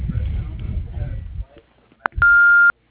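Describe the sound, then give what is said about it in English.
A single loud, steady electronic beep from the Stimson Dental Lab answering machine sounds for about half a second right after the greeting finishes, followed by sudden silence, signaling to record. “If you'd like to leave a message, do so at the beep.”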